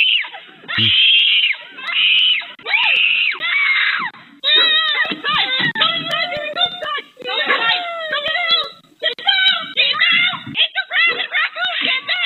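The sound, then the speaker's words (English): A raccoon screeches: three drawn-out, harsh, high-pitched wails, then a loud, rapid run of chattering, warbling squeals and trills that keeps going with only brief pauses. “But this poor kid, this is your beautiful, cute raccoon”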